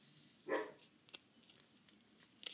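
A dog, Banjo, gives a single short, sharp bark over a quiet background, followed by a few faint clicks and taps. No one speaks.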